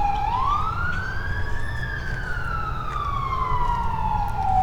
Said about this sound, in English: And here comes the ambulance. I can't see it, but I can hear it.